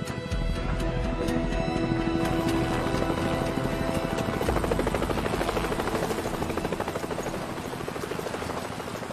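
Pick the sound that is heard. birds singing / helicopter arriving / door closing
helicopter arriving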